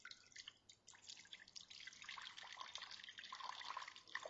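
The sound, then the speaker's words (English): Liquid pours in a steady, unbroken stream, a soft trickling splash that keeps going for several seconds. It is fairly quiet, with no voices. “It just kept pouring. It just kept going.”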